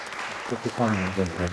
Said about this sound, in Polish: Dziękujemy państwu. No i teraz oklaski.